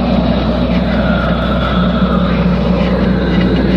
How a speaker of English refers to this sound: I watched Twin Peaks, The Return with closed captioning on. Right. And whenever that sound effect comes on, Showtime's closed captioning describes it as atmospheric whooshing.